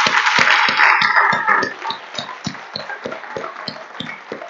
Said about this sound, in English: So I want us all to give her a great round of applause for all she's done.